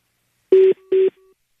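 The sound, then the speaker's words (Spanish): Two short touch-tone beeps from a telephone keypad, each about a fifth of a second, pressed in quick succession, followed by a faint lingering tone, with no voices. “Te estoy marcando tu celular y me manda buzón.”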